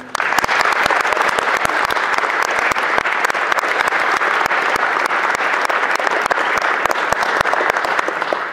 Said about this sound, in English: So, I think, would you all show your appreciation to these guys with a good round of applause